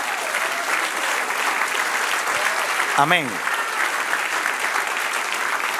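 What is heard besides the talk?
audience applauding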